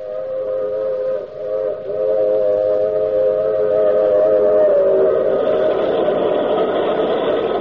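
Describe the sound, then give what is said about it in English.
A long, wailing steam train whistle sounds steadily over the heavy rumble of a rolling train, loud, with no voices, opening the radio drama The Mysterious Traveler. “Let's board the train with the Mysterious Traveler.”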